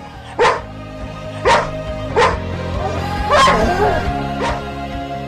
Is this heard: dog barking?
yes